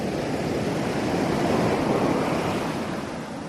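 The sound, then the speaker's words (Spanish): Steady ocean surf washes onto the beach at Normandy, France, a broad rushing roar that swells slightly in the middle and eases toward the end, with a faint wind hiss and no voices. “Este que escuchas es el sonido de la playa de Normandía, en Francia.”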